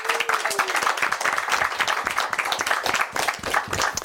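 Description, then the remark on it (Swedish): A live audience at a live recording of Bildningskomplexet applauds to welcome guest Hans Ruin, philosophy professor from Södertörn University, many hands clapping in a dense, continuous patter for several seconds without any talking. “En stor applåd och välkommen till dig.”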